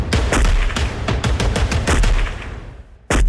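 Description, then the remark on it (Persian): Rapid bursts of gunfire crack out in quick succession as a driver who has stopped his vehicle gets out and fires his weapon at police forces, a dense volley of sharp shots that trails off before one more loud report. No one speaks. “مرد راننده بعد از توقف خودرو پیاده شد و با سلاح همراهش شروع کرد به تیراندازی به سوی نیروهای پلیس.”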